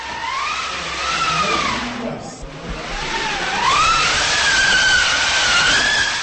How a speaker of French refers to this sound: Sur le chemin, le guide Teresa Zemiova nous montre un objet étrange, un rouleau avec manivelle à l'aide duquel, comme elle le révèle, on imitait le vent dans ce théâtre.